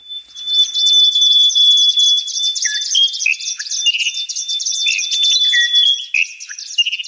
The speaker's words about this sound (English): And that's from an album of endangered bird calls